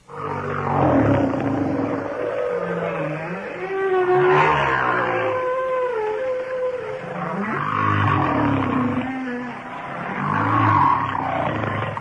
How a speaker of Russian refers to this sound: Вначале голос гигантского горбатого кита.